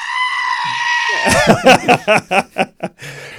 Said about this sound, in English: Public service announcement. Brace yourselves. Panicking goat sound.